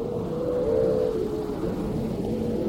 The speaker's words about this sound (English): I just remember very vividly a Silurian, the vessel, edged around the corner of this bay. Suddenly we heard the howling of seals.